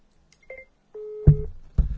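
Phone dialing tones as a call is placed: a short electronic beep, then a longer steady tone, followed by two heavy low thumps. No one speaks.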